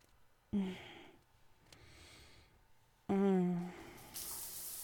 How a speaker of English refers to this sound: I love getting in the shower. It's so warm and, oh, cleansing. Oh, I crane my neck to the side. Let it rush down.